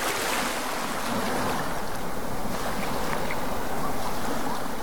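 Continuous wash of water lapping against the shore of the Sea of Galilee, steady, with a broad hissing texture and no voices, like small waves on a lake.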